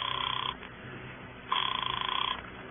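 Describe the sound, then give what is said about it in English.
A telephone ringing heard over the line, two buzzy rings with a pause between them, each ring trilling rapidly at a steady moderate level. “Where's your phone, Koppelheim? It's right here in the counter. It's a business phone”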